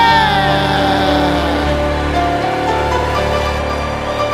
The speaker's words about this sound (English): Shouted, et tout le monde crie, Amen.